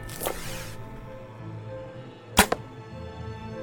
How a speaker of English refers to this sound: These arrows are a waste of time. It's not stopping them.